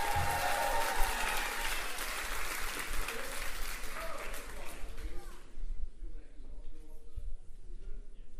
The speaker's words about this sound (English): Big cheer for Claire, please.